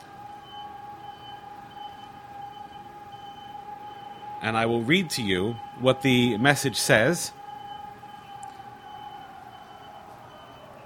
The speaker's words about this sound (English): Now, the police station actually, that because the sirens are located on police stations in Taiwan, it's actually not that far away. It's what, you can easily walk there in about like 10 minutes or so.